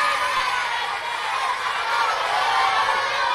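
A crowd applauds and cheers in a steady, dense wash of clapping with scattered whoops, sustained at an even level throughout, close and fairly loud.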